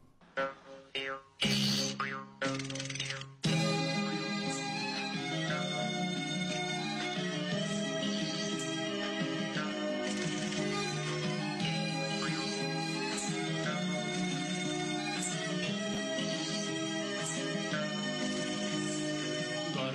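A cheerful song from the children's puppet show Gorbeh Avazkhan (The Singing Cat) plays, opening with a few bouncy, separated notes before a full, bright instrumental arrangement kicks in and carries on at a steady, lively volume.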